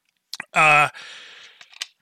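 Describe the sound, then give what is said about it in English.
A bottle cap is thrown onto a computer keyboard, clattering in a few sharp clicks and a light rattle, with a short voiced exclamation cutting in between the impacts. “It's me throwing a bottle cap on my keyboard because he yelled at me one time for doing that.”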